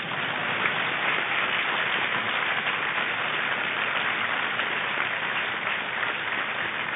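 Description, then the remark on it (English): A crowd applauds for Bill Rainey steadily, a dense, even wash of many hands clapping at once that holds at a constant level from start to finish with no talking. “You can applaud for Bill if you want.”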